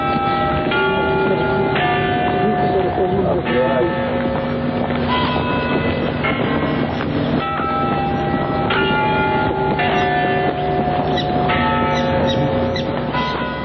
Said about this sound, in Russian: Бьют часы Невьянской башни. Она падающая, совсем как Пизанская, только угол наклона меньше.